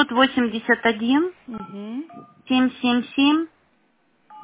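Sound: phone keypad dialing tones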